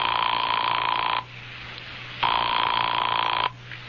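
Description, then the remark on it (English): A telephone rings twice through the line during a call made from a doctor's house, each long electronic burst steady and clear, separated by a second of near silence with a faint low hum underneath. No one speaks. “She was also kind enough to let me make a phone call on my credit card.”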